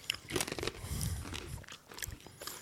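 Crisp, crackly crunching of potato chips being bitten and chewed, a rapid irregular series of sharp bites with no voices over them.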